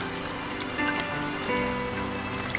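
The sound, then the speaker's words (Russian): Steady autumn rain patters densely on a hard surface, a continuous hiss of countless drops with faint sustained tones beneath, and no voices. “Дождик сердито лопочет, быстро смывая слова те, что на желтом листочке я разглядела едва.”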